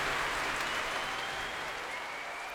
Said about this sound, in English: But for now, well, the adrenaline is almost tangible here at the Royal Albert Hall, and that's going to carry on for a while. A lot of stamping and cheering, but we must take our leave.